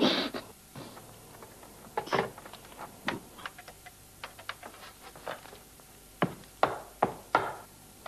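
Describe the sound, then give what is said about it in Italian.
Irregular, sharp thumps of a secretary's rubber stamps hitting paper in an office, about a dozen in quick uneven bursts, moderately loud, with no voices and only a faint room hum between them. “E lui comincia finalmente a respirare dopo questi tuk tuk che sentiamo, che sono i timbri della segretaria che digita, fa senza assolutamente interfacciarsi con lui come se non gliene, sì, fregasse assolutamente niente.”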